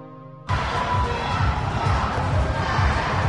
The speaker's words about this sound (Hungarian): Dübörgő bíztatás, labdapattogás, sípszó. A körmendi sportcsarnokban nemzetközi kosaras csapatok mérkőztek.